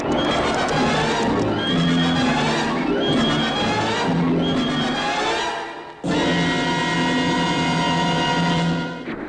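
Loud, shrill horse whinnies ring out repeatedly over a dense clatter of hooves, filling the whole scene with a brief break before the neighing and galloping surge back.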